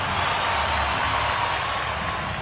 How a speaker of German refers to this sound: Und das Publikum tobt.